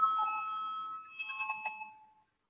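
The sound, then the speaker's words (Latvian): An electronic chamber bell in the Latvian Saeima sounds before a vote on a legal committee proposal: a steady, bright ringing tone holds for about a second, then breaks into five quick, short chimes before stopping. No one speaks over it. “Lūdzu, zvanu, balsosim par 12. juridiskās komisijas priekšlikumu.”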